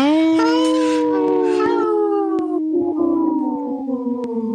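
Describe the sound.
Four people howl together like wolves, their long, wavering voices overlapping in a loud, sustained chorus that slowly drifts downward in pitch, with no talking.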